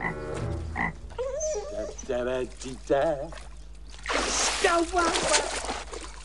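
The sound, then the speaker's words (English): A frog let out of a jar makes a series of warbling croaks in short bursts, fairly loud, followed by a rush of sloshing, pouring water in a bathtub toward the end. “In each is a separate lizard, a snake, some bees and a frog.”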